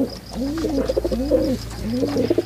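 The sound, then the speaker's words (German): Feral city pigeons coo repeatedly in a city in low, throaty, rising-and-falling phrases, several overlapping calls, with a steady low hum underneath and no talking. “Das sind Tauben, Stadttauben.”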